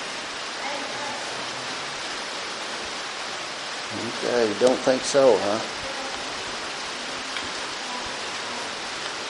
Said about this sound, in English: Is the sun shining? It's raining.